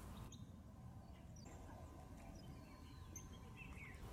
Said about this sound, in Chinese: 站在这里能听到鸟叫声和流水声，感觉很舒服。